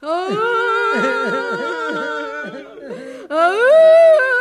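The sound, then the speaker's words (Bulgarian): Exaggerated fake sobbing from loud voices crying on command, not for real: a steady wail broken into rhythmic hiccuping pulses, a brief pause, then a higher, rising theatrical boo-hoo cry. “А сега сядайте и плачете. Какво? Да плачем. Ама не наистина. Ето така.”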